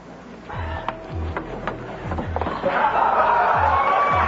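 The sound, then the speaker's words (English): A crowd cheers and claps for a motivational speaker being called up to give his speech, swelling louder partway through, with heavy rhythmic thumps like stomping feet and a few high whistles rising over the noise. “Now, he's used to big groups, so make him feel like there's a crowd here.”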